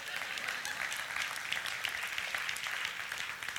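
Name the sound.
audience clapping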